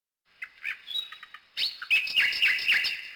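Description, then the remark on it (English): A mechanical nightingale, a present to an emperor from the emperor of Japan, sings in bright, warbling chirps and trills, starting with a few short tweets and then swelling into a continuous, loud, fluttering song. “A mechanical nightingale. Oh, listen! It sings beautifully too.”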